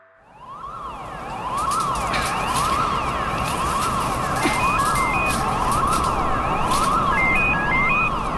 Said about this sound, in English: No, I'm still outside the fence. And I can hear the alarm still going. I don't know what they're playing at.